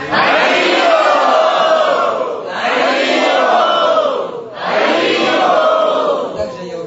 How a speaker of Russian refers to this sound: Дорогие преданные, давайте его отцу и затем Кешава Кришне крикнем дружно Харивам.